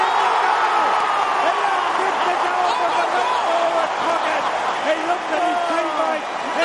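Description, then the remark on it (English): A large football stadium crowd roars continuously as a player kicks his second goal, a dense wall of cheering and shouting that stays loud and steady throughout, with scattered whoops rising above the din. “He kicks his second and that crowd's going crazy.”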